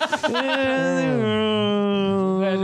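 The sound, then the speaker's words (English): A person hums a short melody, starting with a few quick pitch shifts before settling into a long, steady sustained note, with no other sounds around it. “Hang on. I'll hum it.”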